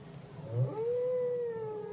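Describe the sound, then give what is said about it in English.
A long, drawn-out song of a male whale in the ocean swells in and holds a steady, moaning tone with a slight downward bend, carried over a low rumbling background and no voices. “In the ocean, the other whales will pick up the song and pass it on.”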